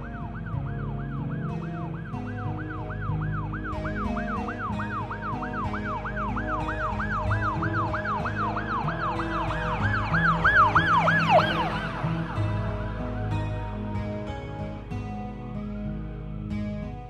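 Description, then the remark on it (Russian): An ambulance siren yelps in a fast, repeating warble over a low traffic rumble, growing louder before sweeping downward and cutting off, leaving only road noise. “Меня быстро погрузили в машину скорой помощи.”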